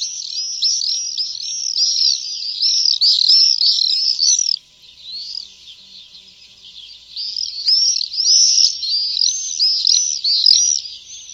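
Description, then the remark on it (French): Shrill, buzzy screams of common swifts pour out in a dense, overlapping chorus, fading briefly to faint calls midway before another loud screaming burst sweeps by. “Or ces chants ou ces cris, nous les entendons vraiment, surtout, je dirais, fin juin et durant le mois de juillet, notamment au-dessus des villes et des villages.”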